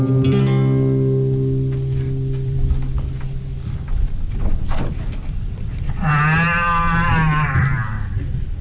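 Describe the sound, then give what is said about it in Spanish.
A cow moos in a long, low, steady drone lasting a few seconds, then after a pause gives a second wavering, bleating call over a continuous rustling background. No one speaks. “¡Vaca escondidiza! ¿Dónde estás que puedo escuchar tu voz, pero no veo tu recia figura?”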